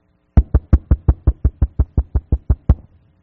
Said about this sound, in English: You say, listen, man, this door's going to open eventually. Because I'm knocking right.